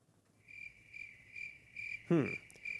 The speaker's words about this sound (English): get ready with your cricket sound effect, man. I'm going to need it.